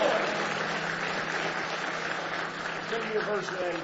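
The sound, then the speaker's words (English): A church audience applauds steadily during a morning service, giving a hand clap of praise, a dense wash of clapping that holds at an even level throughout, with a few voices calling out faintly beneath it. “If you let him, give him a big hand clap of praise this morning.”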